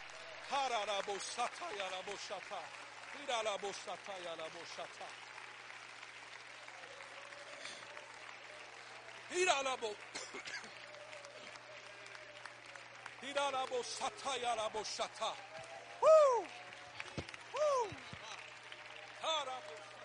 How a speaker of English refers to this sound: Would you stand to your feet right now? Would you clap your hands in honor to the power of the name?